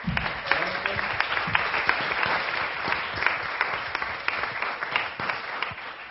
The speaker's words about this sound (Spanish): Bueno, muchas gracias a estas dos buenas experiencias. Les doy un aplauso para los dos.